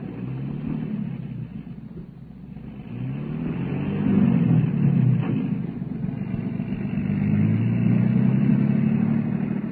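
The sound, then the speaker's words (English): A patrol car engine rumbles and revs, its pitch climbing in two surges as the car pulls away, a loud steady motor drone with no voices. “Put her in the back seat of the patrol car.”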